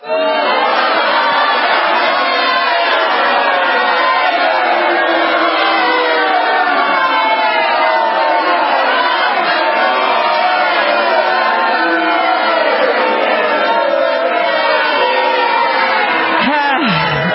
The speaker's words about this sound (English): Yeah, the crowd doesn't like it either.